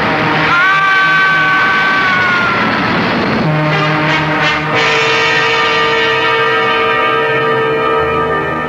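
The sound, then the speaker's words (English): The horn of a southbound express train at Mount Kisco station blares loudly and continuously over a heavy rumble, its pitch sliding lower midway as the train rushes by, then holding a steady droning tone. “The train!”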